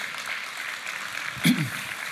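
An audience claps steadily throughout, a dense, even wash of applause with one brief louder burst partway through.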